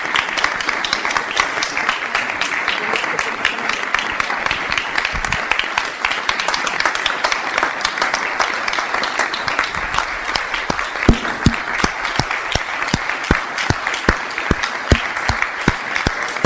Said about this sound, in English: I want you all just to clap your hands. Keep clapping.